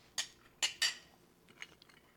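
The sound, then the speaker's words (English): Glasses clink together in a toast: three sharp, bright taps in quick succession, followed by a few softer, fainter clinks amid quiet. “Well, I want to try this before it gets watered down. So yeah, sure. Cheers.”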